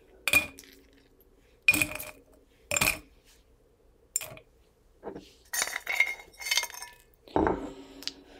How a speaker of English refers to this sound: Okay. Ice in.